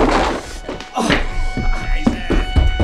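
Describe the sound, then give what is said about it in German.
A heavy wooden thunk and clatter as a bald man swiftly hurls a chair at the three young detectives of Die drei ??? and it crashes, followed by further knocks and scraping, with brief voices reacting over the commotion. “Dann griff er blitzschnell nach einem Stuhl und schleuderte ihn den Dreien entgegen.”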